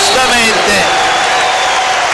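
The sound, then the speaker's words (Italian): A loud, dense roar from a large basketball arena crowd, at a game with Scafati, cheering and clapping as Gentile draws a foul and urges the crowd on, a steady unbroken wash of noise that fills the whole two seconds. “Si prende il fallo Gentile e adesso va a incitare il pubblico”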